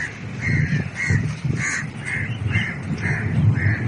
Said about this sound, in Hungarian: A lakók beszámolói szerint a fekete madarak egyre merészebbek, berepülnek a lakásokba, ellopják az ételt az asztalról, és hajnali károgásukkal zavarják a pihenést.